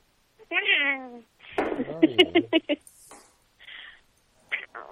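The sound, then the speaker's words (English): A person mimics a cat, giving a drawn-out, wavering meow, followed by a burst of babbling vocal sounds and a few short, breathy noises with pauses between. “Are you a cat? Yeah. Are you a kitty cat?”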